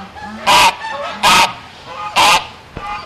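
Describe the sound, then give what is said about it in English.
Three loud, harsh honking calls from wild birds during field sampling for avian flu, evenly spaced about a second apart, with faint background calls and rustling in between. “Sampling birds takes less than a minute.”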